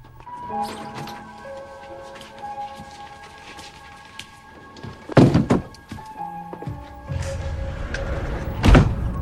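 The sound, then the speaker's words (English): Bedroom wardrobe sliding doors being shut after a door mirror is placed inside, two firm thuds a few seconds apart, each with a brief rumbling slide, heard over soft sustained musical tones. “She places it in the bedroom wardrobe and slides shut the doors.”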